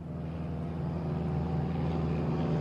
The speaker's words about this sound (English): Yeah. That doesn't sound like a jet to me, though. I was thinking north and northwest. Yeah, that's exactly what it sounds like, a propeller plane.